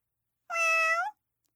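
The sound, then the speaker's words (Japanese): A single high, clear meow from Vanilla, a curious kitten who has slipped out of the house to walk the town, about half a second long, fairly loud, with a steady tone that dips slightly at the end, alone against silence. “好奇心旺盛な子猫のバニラは、今日も家を抜け出し街を歩く。”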